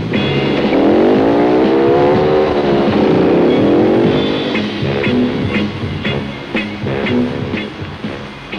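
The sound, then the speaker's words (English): A motorcycle engine revs loudly, its pitch climbing and sweeping through a couple of throttle bursts before it settles into a steadier rumble as it pulls away. “So would you girls mind stepping off my motorcycle?”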